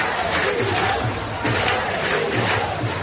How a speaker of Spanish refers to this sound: Y estos gritos que estamos escuchando, los Rubiales dimisión, son los gritos que se han escuchado de la afición que hoy estaba viendo jugar al Barcelona femenino.